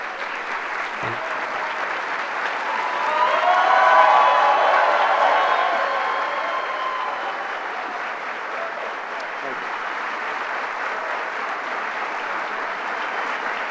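Sustained applause from a large audience at the Gran Teatro in Cuba as President Barack Obama steps to the lectern and waves to the crowd, swelling to a peak with scattered cheers and whoops before settling into steady, continuous clapping.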